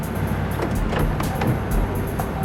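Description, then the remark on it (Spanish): A car carrying a couple arrives at a Western Union in Miami with a steady engine rumble and road noise, plus a few faint clicks and bumps over the hum. No one speaks. “Lograron identificar a la pareja que llegaba en un auto.”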